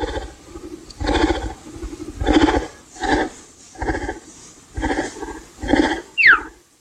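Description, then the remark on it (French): A present-day cheetah gives a string of about seven squeaky, chirping calls at a steady rhythm, each a short harmonic yelp, ending with a quick high-pitched descending squeak. No talking. “Et ça, c'est le guépard aussi, d'ailleurs, Axel.”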